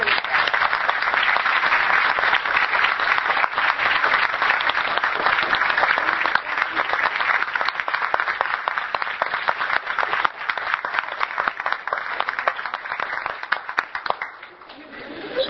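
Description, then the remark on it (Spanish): Sustained, loud applause from a large audience at an event in Uruguay, applauding the participants, dense overlapping claps for about fourteen seconds before tapering off slightly at the end. “Entonces, un aplauso fuerte por ustedes.”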